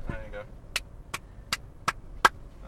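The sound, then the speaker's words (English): Low, steady rumble of road traffic outside runs underneath five sharp, evenly spaced hand claps by a person who has put the microphone down, with a brief murmur of voice at the very start. “If you can hear it over the traffic noise.”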